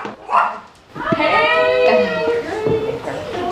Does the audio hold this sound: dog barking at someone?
yes